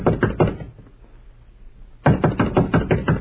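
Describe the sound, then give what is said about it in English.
Firm knocking on hotel room door number 14, a quick series of raps, then a pause of about a second and a half, then a second, longer round of steady knocks. Fairly loud, with no voices. “No, we'll knock first.”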